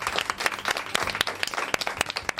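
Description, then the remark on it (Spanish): An audience at the Olimpiada del Saber breaks into steady applause, many hands clapping in a dense, crackling wash with sharper individual claps popping out, sustained at an even level throughout without voices. “¡Un aplauso, hombre!”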